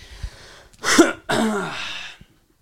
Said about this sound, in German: Katastrophe mit diesem Husten.